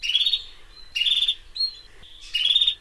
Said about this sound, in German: Falls es etwas lauter zwitschert als normal, nicht wundern, die schwirren hier um mich rum.